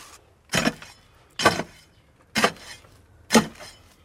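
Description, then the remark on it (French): A radio sound effect of working in a field: four gritty scraping strokes of a small hoe dragging through sand in a wooden box, evenly spaced about a second apart, each a short rasping burst that quickly fades. No one speaks. “Et là, il y a une caisse en bois avec du sable, tout simplement, et une petite houe.”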